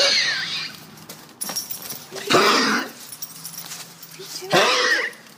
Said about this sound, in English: This is the sound of a gavel.